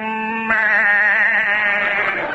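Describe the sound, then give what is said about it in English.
A person yells an imitation of a ram's bleat as a football yell for watching the Rams, one loud, sustained nasal cry that starts steady and then breaks into a quavering, tremulous wobble for about two seconds. “It's a special football yells. For instance, when you're watching the Rams, you yell like this.”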